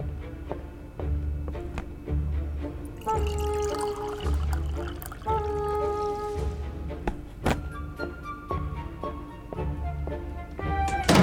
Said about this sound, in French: Ouh, faut vraiment que je fasse un truc pour cette chasse d'eau.